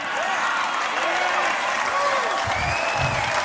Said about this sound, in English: And big applause right there for Mr. Trump.